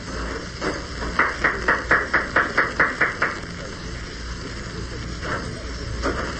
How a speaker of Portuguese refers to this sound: É, tem aquela casa lá, cercada de jardim. Vamos só para aqui. O número é esse mesmo. A casa retirada, caindo aos pedaços. Vamos bater palmas.